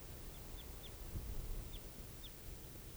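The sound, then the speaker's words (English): Red crossbill calls, type 4, from an orange male perched on a burnt branch in a clearing: five short, high, downslurred chip notes in an uneven series, fairly faint over a steady low rumble of background noise. “So recording this crossbill here. I think it's perched somewhere out in the clearing.”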